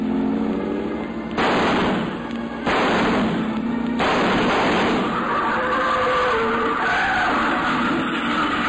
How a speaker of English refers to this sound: And from not too far away, toward the front of the house, I heard a car start. Car pulling away about 50 yards from the house.